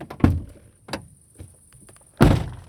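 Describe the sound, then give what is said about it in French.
A van door is opened with a couple of short clunks and rattles, then slammed shut with a loud, heavy thud that rings out briefly. No one speaks. “Bon, attendez, j'ouvre la porte et je la ferme.”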